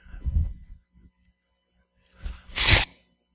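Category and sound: human body sound, blowing nose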